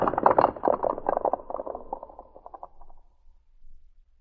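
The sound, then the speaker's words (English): Riders gallop off on horseback toward the woods in a dense, rapid drumming of hoofbeats that steadily fades and dies away after about three seconds, leaving near silence. “Brad and his two friends ran for the horses they had hidden nearby.”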